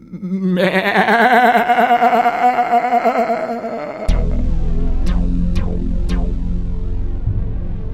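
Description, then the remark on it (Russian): A ram gives one loud, drawn-out, quavering bleat lasting several seconds, then it stops and a low rumbling noise follows, broken by a few sharp clicks. “В этом выжидающем положении, как бы прислушиваясь и всматриваясь, простоял он несколько минут, и затем сильное, потрясающее блеяние вырвалась из его груди.”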